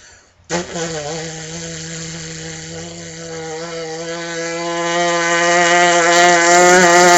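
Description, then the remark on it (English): A single sustained brass lip buzz, played as a long buzz exercise on one huge breath, holds one low, raspy pitch for about seven seconds, starting soft and swelling steadily louder toward the end with no talking. “So here's the long buzz. Huge breath, play it for as long as you can, and I'm just going to do it for a short time.”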